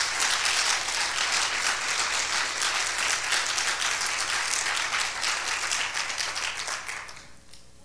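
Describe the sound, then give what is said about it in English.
An audience claps their hands together for the word of the Lord in a dense, sustained burst of applause that stays loud for several seconds, then thins out and fades toward the end. “Come on, clap your hands again for the word of the Lord.”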